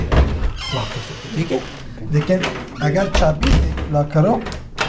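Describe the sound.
Clicks and a couple of dull thunks from the front entrance door of a third-floor apartment being unlocked, shown to two refugee men at their new home, mixed in with people talking.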